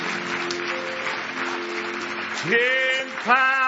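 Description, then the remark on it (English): An audience claps steadily in praise, a dense, continuous wash of applause under sustained organ-like tones, with a couple of rising vocal swells near the end. “Give me one more hand clap of praise if you love Him.”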